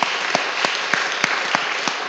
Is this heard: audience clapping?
yes